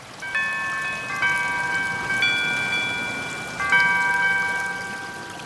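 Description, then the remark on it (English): A Google Pixel phone alarm tone plays through the phone's small speakers: four bright, bell-like, higher-pitched electronic chords in a slow melodic sequence, each ringing out and slowly fading over a soft background hiss, with no voices. “And alarms.”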